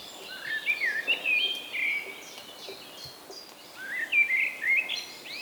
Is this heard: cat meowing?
no